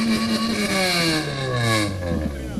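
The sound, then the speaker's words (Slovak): A tuned car engine at a tuning show revs loudly, its deep harmonic roar sliding steadily downward in pitch as the revs fall over a couple of seconds. “Auto musí pekne spravené, musí ísť a musí správne hučať, aj.”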